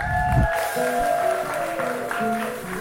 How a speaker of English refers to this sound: Can you give an applause?